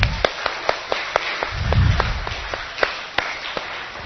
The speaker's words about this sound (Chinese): 听说养德队迟到是因为他们去洗碗，所以我们要不要原谅他们？好，我们给他们掌声鼓励一下。